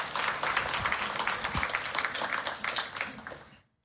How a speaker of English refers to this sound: Okay, so yeah, love the clapping.